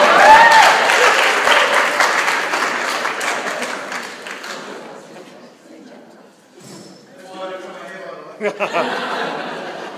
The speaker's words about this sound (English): Applause.